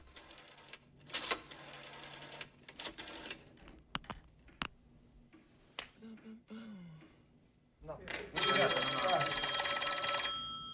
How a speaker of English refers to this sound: Smith sits at a switchboard dialing.